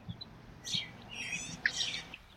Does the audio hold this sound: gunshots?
no